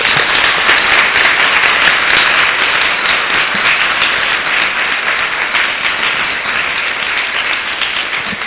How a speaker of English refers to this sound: This goes for a big, big, big hand of applause.